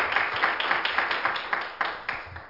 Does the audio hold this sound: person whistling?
no